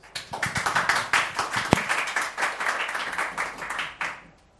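A room full of people claps steadily for a few seconds, a dense crackle of many hands that fades out at the end. A couple of louder, closer claps stand out, with no talking.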